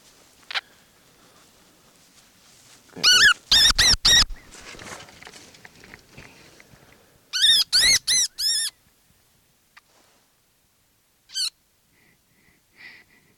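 baby wood rat squeaking

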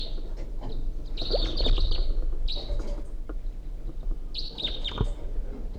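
wild birds chirping

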